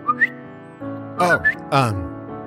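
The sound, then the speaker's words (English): Someone imitates a bird call: two quick rising whistled chirps, then a pair of loud swooping vocal calls that slide downward in pitch, with no other talking. “Didn't want to scare you, so I guess I just made a bird noise.”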